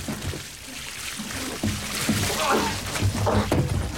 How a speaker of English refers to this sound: She puts it over his face. She pours the pot of water onto the towel.